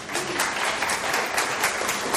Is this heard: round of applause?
yes